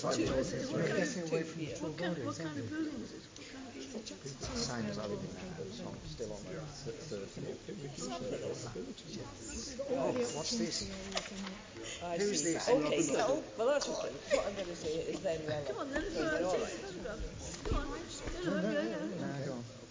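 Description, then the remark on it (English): Busy outdoor street ambience outside Elephant and Castle, with a steady wash of overlapping voices and background bustle, continuous, with no single sound standing out. “Outside Elephant and Castle.”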